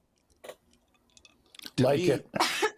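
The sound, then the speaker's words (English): A loud sneeze erupts after a few faint clicks: a sharp voiced intake bursting into a harsh, noisy blast, followed quickly by a second forceful burst. “Bless you.”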